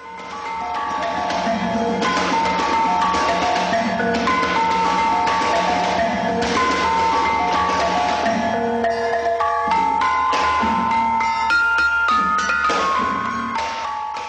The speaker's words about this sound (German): Wir tanzen Linda mit dem Rhythmus Rambiwuna oder dem Schlag von Gong begleitet, das eine Einzigartigkeit hat, die die Tanzbewegung mit der Geschwindigkeit des Rhythmus von Gong in entgegengesetzte Richtungen ging.